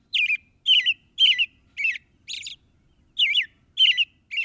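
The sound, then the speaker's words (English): An American robin sings in February a clear, caroling song of short whistled phrases, five in a steady rhythm, a brief pause, then three more, bright with no other sounds. “Even now in February, when the air outside is brittle and painful, warmth rides the rhythm of an American robin.”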